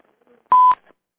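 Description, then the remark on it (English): A single short electronic beep, a steady mid-pitched tone lasting about a quarter second, sounds clearly over a quiet call-in phone line with faint clicks around it. “And I think I heard a beep online.”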